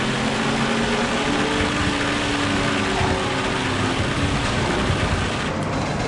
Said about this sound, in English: If I apply it, it makes my car go away. When I'm inside it, I can hear my car.